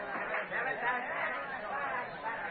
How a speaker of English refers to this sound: Just a little later, at the third base field boxes of the jammed ballpark, a typical New York Sunday crowd is watching fielding practice.